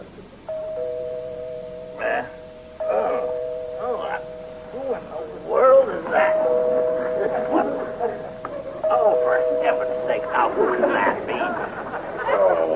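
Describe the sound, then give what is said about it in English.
A doorbell rings in two long, insistent stretches, its steady tone held for several seconds each time, while a dog barks and yips excitedly over it. “At least you don't have to wear out the doorbell.”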